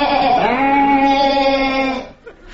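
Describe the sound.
A single drawn-out sheep bleat, loud and nasal, holding a steady pitch for about two seconds after a quick upward waver, then stopping, leaving only a faint brief sound afterward.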